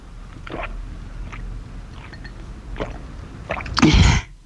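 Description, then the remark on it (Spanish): A drink being poured and then drunk: a few short, soft wet clicks and splashes spaced apart, followed by a louder gurgling gulp near the end before it falls quiet. “Muy bien, alguien que se sirvió y bebió.”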